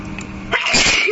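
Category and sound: human body sound, sneeze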